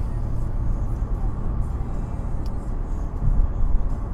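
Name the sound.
car driving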